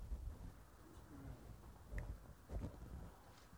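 Soft, low dove coos come in a few brief murmuring bursts, faint over a quiet outdoor background with a light rumble.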